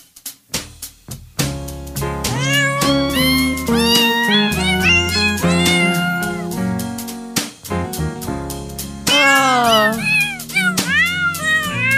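Cat meows pitched and sequenced into a Christmas melody over a steady instrumental backing, the meows rising and falling in quick succession like sung notes, loud and upfront.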